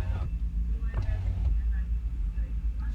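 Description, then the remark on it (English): Indistinct voices of Scottish people talking on a street outside the casino next to the Stand Comedy Club in Edinburgh, heard through a parked car's open window, murmured and not clearly understandable, over a steady low rumble of traffic and engine noise. “For those people, you hear those people? They're Scottish people. They are Scottish people just outside the casino next to the Stand.”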